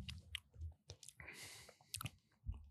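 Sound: sipping beer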